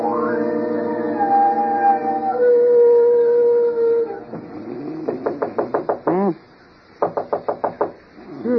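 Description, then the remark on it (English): After a long, wavering howl, someone raps on a bedroom door in two quick series of sharp knocks, with a brief pause between the bursts. “Somebody's at the door of this iceberg they call a bedroom.”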